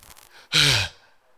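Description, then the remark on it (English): A single loud, heavy breath out, partly voiced like a sigh, with faint, softer breathing before it and quiet afterward. “You're breathing hard. Breathing again. Breathing again.”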